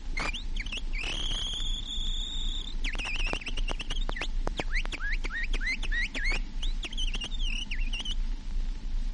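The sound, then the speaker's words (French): A human whistler, an imitator from the Casino de Paris, imitates a nightingale's song on a recording of birdsong and animal cries: a long sustained high whistle followed by rapid trilled chirps and sliding notes, with a steady low hum underneath. “Le rossignol.”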